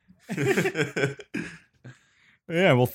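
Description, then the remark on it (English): A man performs an exaggerated, voiced fake sneeze and cough: several strained, throaty bursts, a short pause with a faint breathy hiss, then a loud wavering vocal burst at the end. “I'll do that just for you. Sneeze and cough.”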